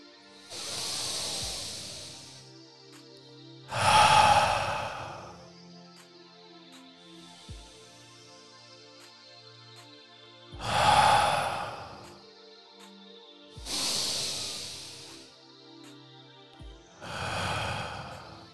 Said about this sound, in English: Let's try breathing together quickly. Just in and out.